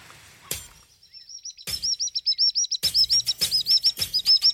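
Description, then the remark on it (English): A sandpiper calls in a rapid, rhythmic series of high, thin piping notes, repeated steadily and clearly, with occasional broad bursts of wind or water noise behind it. “But the correct answer, obviously, is the sandpiper.”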